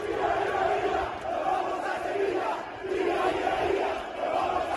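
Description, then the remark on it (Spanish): A large crowd of Osasuna football fans in Pamplona chants in unison, celebrating the club's Copa del Rey win over Athletic that sends it to the final, a loud rhythmic cheer rising and falling in repeated waves with brief dips between phrases, no single voice standing out. “La fiesta se desató en Pamplona, donde solo se escuchaba este grito.”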